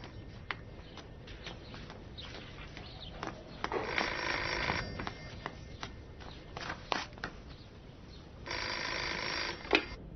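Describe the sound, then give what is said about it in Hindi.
A telephone in a house rings in two long bursts a few seconds apart, clear, with scattered clicks and knocks around it, no one picking it up and no one talking. “कोई नहीं इस घर में जो फोन उठाए।”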